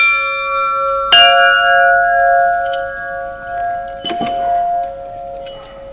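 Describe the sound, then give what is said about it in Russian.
A small 8 kg bell is struck twice, each strike ringing out with a bright metallic clang and long sustained overtones that hum and fade slowly between hits. No one speaks. “Потом берем второй колокол. Этот уже будет 8 килограмм.”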